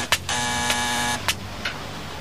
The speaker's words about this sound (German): Hört sich an wie Schläge an ein Rohr. Ja, da klopft jemand an ein Heizungsrohr.